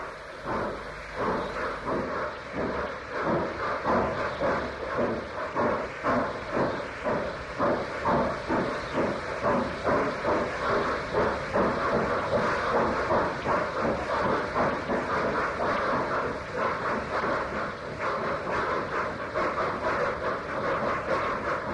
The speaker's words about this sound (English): The deep thudding two-cylinder exhaust of the Black 5 is heard first, but soon overtaken by the crisp three-cylinder exhaust of the A4 as they haul the heavy train away from its penultimate stop into Haymarket Tunnel.